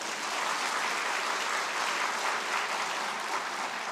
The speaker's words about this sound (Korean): 아, 이분이 아, 박수 치려면 박수 한번 쳐주세요.